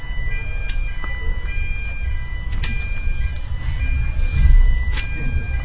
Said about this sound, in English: Fire alarm? Is it fire alarm? We have to stop there.